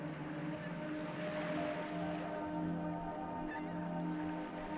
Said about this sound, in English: And as you relax more deeply, you look down towards where the waves are washing ashore.